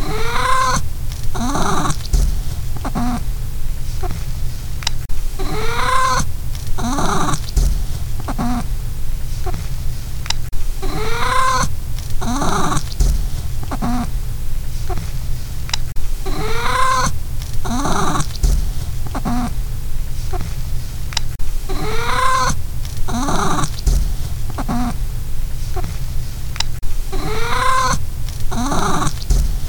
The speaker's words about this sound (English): So, without further ado, here is 30 seconds of my cat making the sound she makes when she does kitty poops. Here we go. Here's Pippa pooping.